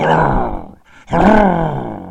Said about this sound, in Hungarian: Egyszerre csak haragos morgást hallott a hata mögül.